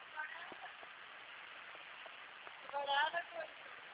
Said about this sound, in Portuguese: Ai, que chuva forte.